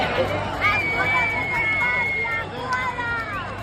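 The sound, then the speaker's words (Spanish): A large crowd of thousands at a military parade in the streets of Oviedo fills the air with continuous, overlapping chatter and raised voices, a dense hubbub with a few higher calls or cheers rising above it. “este sábado miles de personas han asistido al desfile en las calles de Oviedo”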